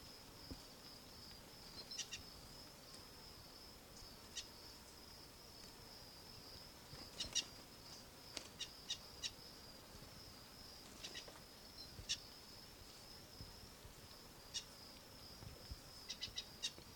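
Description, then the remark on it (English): Faint wild bird calls in the background: brief chirps scattered irregularly throughout, over a steady high-pitched insect-like drone. No one speaks. “wild bird in the background.”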